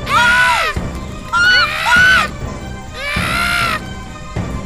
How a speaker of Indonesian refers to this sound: Keduanya bertengger di atas pohon sambil berkicau bersaut-sautan.